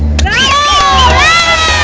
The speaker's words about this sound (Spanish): ¡Un aplauso!